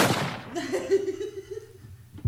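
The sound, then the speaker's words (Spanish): A single sharp gunshot cracks at the start and rings out briefly, followed by softer voices and what sounds like faint laughter in the background. “Disparo, por favor.”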